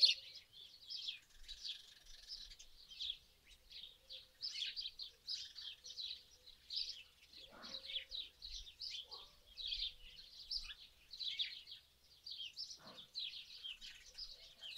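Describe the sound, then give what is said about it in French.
Birds chirp and trill continuously outdoors, their high, busy calls overlapping in a dense, steady chorus, with no talking. “Toute votre attention sur le chant des oiseaux au dehors.”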